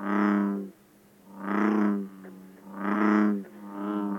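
A bullfrog gives three deep, resonant jug-a-rum calls in a steady rhythm, each a drawn-out droning note with short pauses between, loud with no talking.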